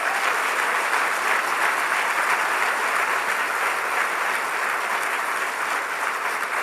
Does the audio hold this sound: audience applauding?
yes